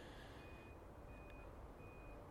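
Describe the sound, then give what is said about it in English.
Steady high-pitched reversing beeps from a truck, repeating at a regular pace over a constant low rumble of engine and traffic noise, amid industrial sounds of cars and trucks. “And all you can hear are industrial sounds, cars and trucks and reversing vehicle sirens.”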